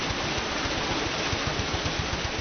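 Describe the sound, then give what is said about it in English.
A corn mill's water wheel turns with a steady, dense rush of splashing water over a low, rhythmic churning thump that repeats throughout, loud and unbroken, with no voices. “The heart of the mill, of course, is the water wheel, noisy and powerful.”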